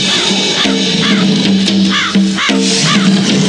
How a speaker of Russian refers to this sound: Меня преследуют. Не больно. Вороны.